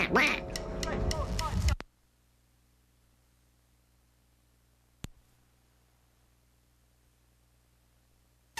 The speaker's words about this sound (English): Oh, listen to this. The birds are coming back. The birds. Oh. It's so wonderful!